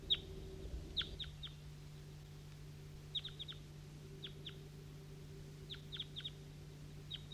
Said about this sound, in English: That's a wild bird now responding. A couple of them. A couple of wild birds.